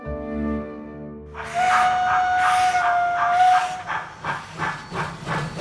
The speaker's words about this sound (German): Mit der Dampflok.